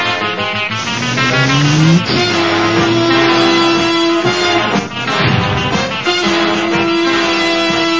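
A car engine revs hard and pulls away, its pitch climbing through gear changes, loud with a steady roar and no voices.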